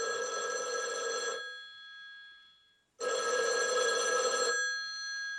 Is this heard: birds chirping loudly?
no